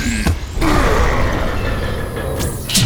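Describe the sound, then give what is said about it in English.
A heavy door in the story Adventures of the Starkeepers grinds shut in a loud, continuous creaking and scraping rumble lasting a few seconds, with a couple of sharp metallic clanks as it closes at the end. “Okay, now shut the door!”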